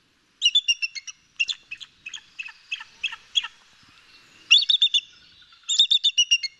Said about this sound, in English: Let's give a listen now to some chatter from a bald eagle.